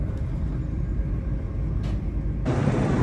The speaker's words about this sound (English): And fortunately, my train was completely on time and I was soon zooming through the countryside towards that London.